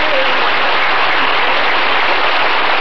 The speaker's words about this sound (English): Canned applause is $11, the small can.